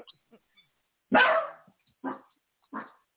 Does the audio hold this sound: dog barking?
yes